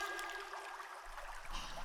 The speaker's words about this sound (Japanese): おちんぽについた泡をお湯でお流しして